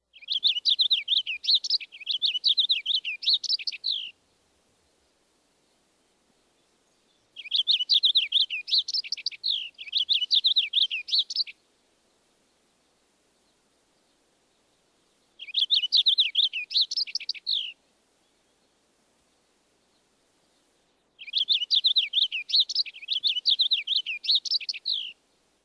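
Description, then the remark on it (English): A purple finch sings clear-toned, warbling phrases in four separate bursts of a few seconds each, with quiet pauses between them; the song lacks heavily accented zree notes, phrases sometimes ending in a short downward trill, with no talking. “Now the purple finch. The purple finch song has a clearer tone, and although it lacks the heavily accented zree notes, the phrases sometimes end with a short downward trill.”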